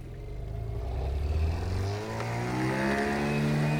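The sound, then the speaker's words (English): A jet ski engine roars as the rider jumps a wave to launch onto a boat, its pitch dipping briefly before revving back up into a steady, climbing whine. There is no talking, just the continuous motor. “I'm gonna jump the next wave and launch myself onto Smasher's boat”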